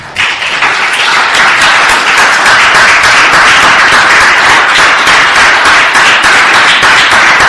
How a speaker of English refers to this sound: So, if you're a veteran, I want you to stand. And I want everybody to give them a round of applause, please. So, veterans, please stand.